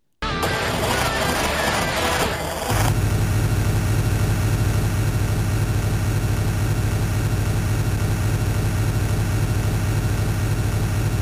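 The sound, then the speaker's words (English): In a video game, a short, busy burst of music gives way to a bus engine's steady low drone, loud and unchanging, humming on monotonously with no voices or other sounds. “So that is like the kind of music you expect at the start of some racing game, and then just for 8 hours, if you can get through it, the drone of that bus.”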